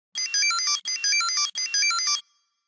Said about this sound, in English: Is it a Tamagotchi? You got it.